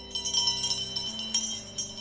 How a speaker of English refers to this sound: The school bell rings, then the principal hits play on the sound system.